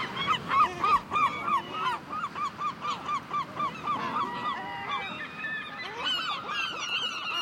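A seabird colony calls in a dense, continuous chorus, many harsh overlapping cries repeating rapidly, with no voices present, on the Fauconnière rock at the tip of Cap Fréhel, by the seashore.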